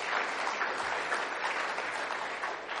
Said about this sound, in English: The mark of any kind of, yeah, we should applaud for that. It's amazing.